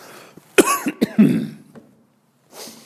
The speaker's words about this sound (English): If you're wondering if I have my corona cough, the answer is no. There's thick yellow pollen still everywhere here in Georgia.